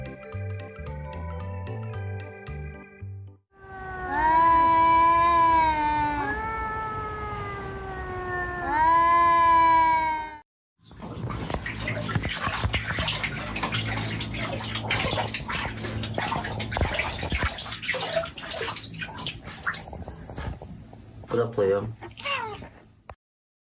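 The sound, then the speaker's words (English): A cat gives loud, drawn-out meows with wavering pitch after a short tinkling jingle. A long stretch of rushing, splashing water follows. “These cats are getting better at appreciating fine human cuisine.”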